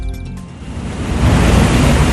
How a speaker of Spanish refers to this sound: Este ruido es el del agua que se vierte en las cuencas de la planta de tratamiento de aguas Manantiales, una de las más importantes de Medellín y su región. Se encuentra a unos 40 minutos en coche de la ciudad, en lo alto de las colinas.